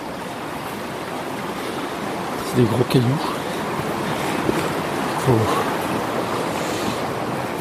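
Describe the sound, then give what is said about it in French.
Steady rushing water from a flowing underground river fills the whole recording with a dense, even roar, while a man walking up alongside it speaks a few brief words over it. “Là je remonte le long d'une rivière souterraine.”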